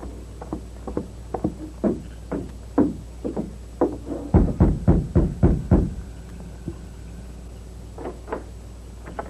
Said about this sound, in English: Oh, hold it. I'll rap on the door.